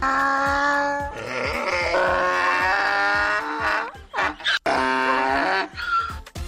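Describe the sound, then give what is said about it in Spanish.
A man's voice imitates a donkey's bray in a voice note, loud, with long harmonic honking calls broken by sharp gasping inhales in a rough rhythm, ending in shorter wheezing bursts. “qué garganta, por el amor de Dios, pero si hace un burro perfecto.”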